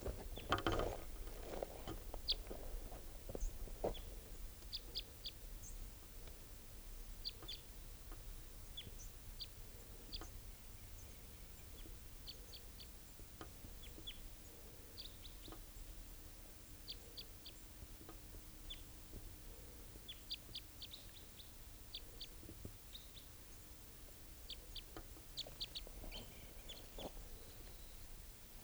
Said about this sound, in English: Just collected that bird, and he'll be bird 633, and there's the third type 3 calling now.